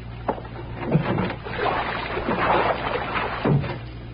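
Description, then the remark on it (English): A door thumps open onto a heavy downpour outside, steady rushing rain, with a few wooden knocks and bumps scattered through it. “This still coming down, Fanny. Well, it sounded to me like it's 3 or 4 feet deep right outside the door.”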